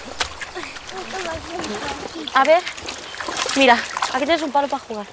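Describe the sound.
Splashing and sloshing of water with irregular bursts as a small group of women wash laundry in the clear water of a river at a lush green riverbank, cloth dunked and slapped, while several voices chatter throughout.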